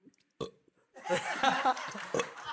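A quick, short burp is followed by a run of small, croaky burps bubbling up, loud and uneven, with no talking around them.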